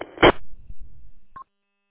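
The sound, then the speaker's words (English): A burst of static crackles, then after a low rumble comes a single short, high electronic chirp, the quick beep of a Nextel two-way radio, with no talking. “I think, you know, I've been looking for the replacement for the Nextel two-way chirp system, and I guess those are as close as it gets, but they're still not a real good replacement.”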